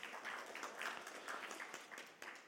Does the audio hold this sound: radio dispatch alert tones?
no